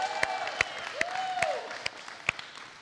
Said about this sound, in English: Well, for those of you that may not know it, Mr. Danny here is now an engaged man, so y'all give him a round of applause too.